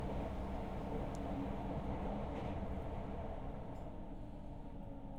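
A train carriage rumbles steadily from inside as the train sways and tilts, a dense low-pitched roar with faint rattling that holds at an even, moderate level throughout, with no voices.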